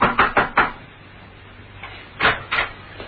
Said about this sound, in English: He parked outside, and slipping his overcoat over the torn dinner jacket, he approached a door which read, The QQF Inc. Knock and enter. Steed did so.